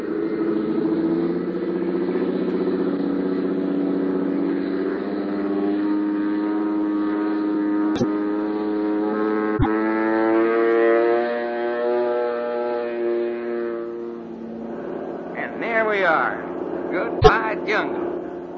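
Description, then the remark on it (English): A small propeller plane's engine drones steadily with a rich, buzzing harmonic tone that swells slightly as it takes off; near the end the drone thins and brief voices and sharp clicks break through. “Running like a sewing machine.”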